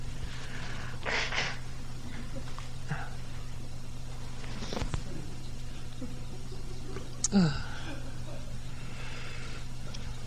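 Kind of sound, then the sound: human body sound, nose blowing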